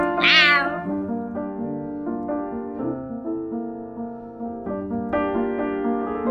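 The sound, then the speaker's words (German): A single rising-and-falling meow from a black cat sounds clear at the start, followed by steady, sustained tonal notes that continue without any talking. “Wenn dir eine schwarze Katze guten Tag gesagt hat, erstaunt dich erstmal gar nichts mehr.”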